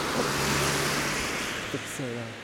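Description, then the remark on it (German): Many cars drive past one after another on a road on a cold day, none of them stopping: a loud, continuous wash of tire and engine noise that fills the whole stretch, with a few brief voice-like sounds near the end. “Ein Auto nach dem anderen fährt hier vorbei.”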